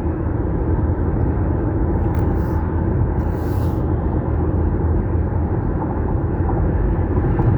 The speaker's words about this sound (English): I just passed a truck.